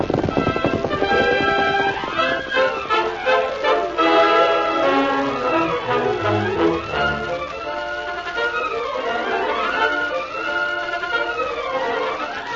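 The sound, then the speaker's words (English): Rapid hoofbeats of the horse Silver galloping, with a whinny, ride beneath a swelling orchestral score that dominates, the hoof rhythm most noticeable early on before the music takes over. “Steady there, Silver. We're going to visit a cussed old man. Sleepy fellow. Come on, Silver.”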